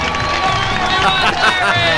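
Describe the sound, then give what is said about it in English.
A large crowd cheers and applauds loudly and continuously, a dense wash of shouting voices and clapping that holds steady for a couple of seconds. “Is there no sweeter sound than that of your own name buried in cheers and applause?”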